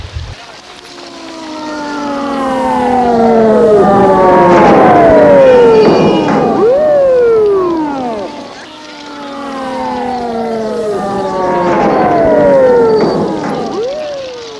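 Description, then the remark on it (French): A loud ambulance siren wails in long, sweeping rising and falling tones, repeating two full cycles over a low rumble, staying strong throughout, as the ambulance speeds off down a street carrying a person on a stretcher. “L'ambulance est partie en vitesse.”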